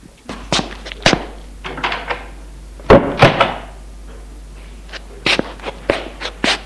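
An apartment door swings shut with a heavy double thud as a woman closes it after a visitor leaves, surrounded by a series of sharp knocks and shuffling footsteps, with no voices.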